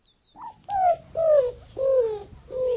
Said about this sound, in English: Bird experts know it as the greater roadrunner.